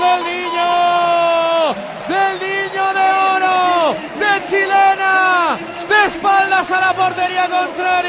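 stadium crowd chanting

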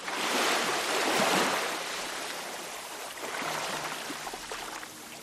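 sea waves

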